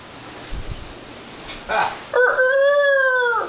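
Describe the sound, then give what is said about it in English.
After a few soft rustles and a brief breathy sound, a voice lets out a loud, drawn-out imitation of a rooster's crow, sustained until the end. “Pretty good rooster, right?”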